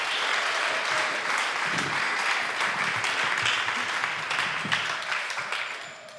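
A crowd applauds loudly, a dense, continuous wash of many hands clapping that holds steady for several seconds before gradually tapering off at the end.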